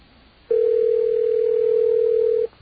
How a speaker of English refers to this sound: Going to Macon, Georgia. What a great name. And I believe this is a Circle K. Whatever a Circle K is, I think we've got one on the phone now that's ringing.